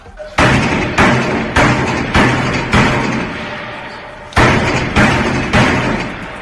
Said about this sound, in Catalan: Ells estan dins la cel·la i quan senten els cops doncs, també s'hi afegeixen. És el mòdul 2 de Quatre Camins.